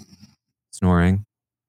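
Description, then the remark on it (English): A woman snoring in bed late at night, toward early morning: a soft, rough snore rumbles briefly, then after a short pause a loud, drawn-out nasal snore with a rising, almost sung tone rings out in an otherwise very quiet room. “It's very, very quiet, but …'s snoring.”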